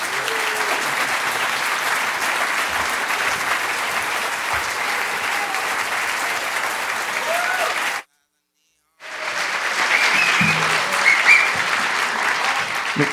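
Sustained audience applause and cheering at the LA Public Library, a dense wash of clapping that cuts off abruptly for about a second before resuming just as loudly.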